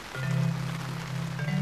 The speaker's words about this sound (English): I've got an umbrella. Come with me. Ah, this is good. It's raining.